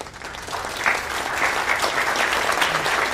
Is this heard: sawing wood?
no